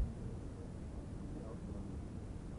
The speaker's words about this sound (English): It's difficult to make a decision, but here we are at the airport. Look, there's a jet plane landing right now.